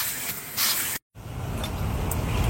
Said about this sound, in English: This is my first time ever in a car wash. I've never been in a car wash. Hey, and it's a very surreal experience what's going on here. My car is so dirty.